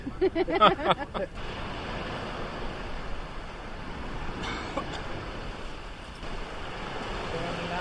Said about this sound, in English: The sound of the ocean. That's gorgeous, it? Isn't it beautiful? Yeah. Especially when we don't have the wind, you can just hear it lapping there, the waves breaking. It's a nice calming effect.